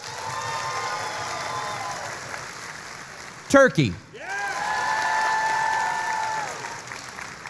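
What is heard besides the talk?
audience applause voting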